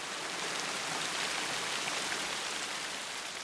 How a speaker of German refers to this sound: Doch in Mitteleuropa im Sommer 2002 war alles anders. Ist Sommer der richtige Begriff? Diesmal waren sich alle einig, dieser Regen ist eine Katastrophe.